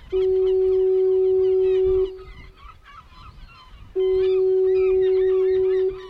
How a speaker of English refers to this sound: It's a remote, rocky, 4-acre island with a rambling 2-story house, a lighthouse, and a foghorn that blows every 22 seconds.